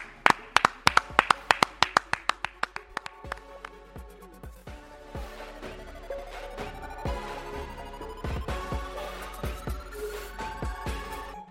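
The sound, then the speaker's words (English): A quick, steady run of sharp hand claps opens loudly, then keeps going less evenly over a bright musical backdrop with a slowly rising tone. “Clap it up.”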